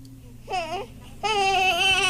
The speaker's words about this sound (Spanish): ¿Sí? Sí, es el llanto de un bebé.